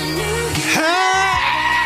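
A loud, wavering goat scream cuts through a song played on BBC Radio 1, its harsh bleat rising and sliding in pitch over a steady musical backing, prominent for about two seconds.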